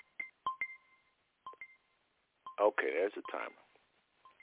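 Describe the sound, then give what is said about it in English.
A 20-minute timer goes off with short, sharp electronic beeps, each a clipped two-tone pip, sounding in small clusters with gaps between them and a louder warbling burst in the middle. “Okay, there's the timer.”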